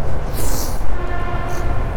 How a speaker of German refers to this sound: Also im Zug, im Hintergrund hört er bei uns den Zug vorbeifahren. Immer wenn die Züge aneinander vorbeifahren, das kenne ich auch aus Portugal, dann hupen die sich gegenseitig an, ne?